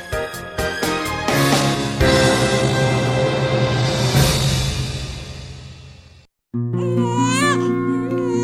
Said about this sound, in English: The first cries of a newborn baby signal the miracle of life.